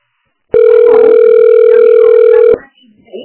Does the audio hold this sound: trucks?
no